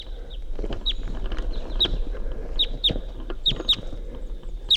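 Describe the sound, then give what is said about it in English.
A male wild bird, one of a pair, calls while flying over toward a net, giving a series of about seven sharp, high-pitched chirps at irregular intervals over a steady, rumbling background noise. “There's a wild bird flying over.”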